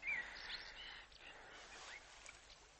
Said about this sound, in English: The birds of early morning are calling among the trees.